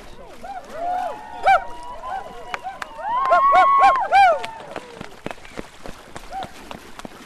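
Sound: canoe paddling through water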